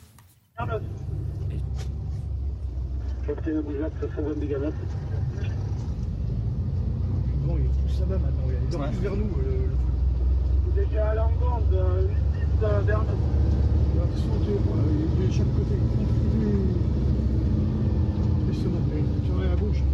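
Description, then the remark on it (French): A heavy, steady engine rumble fills the cab of a moving fire truck on a road in Gironde, France, as firefighters prepare a firefighting action. The rumble is loud throughout, while several voices talk intermittently over the drone. “Et on est vraiment à l'intérieur d'un camion de pompiers.”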